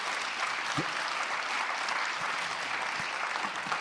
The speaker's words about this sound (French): Je vous propose de les applaudir.